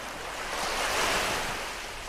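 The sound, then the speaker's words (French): A sea wave breaks against rocks or beach sand and washes in with a broad, hissing roar that swells and then recedes, fairly loud, with no voices. “Sans aucun doute, ce fracas contre les rochers ou contre le sable de la plage.”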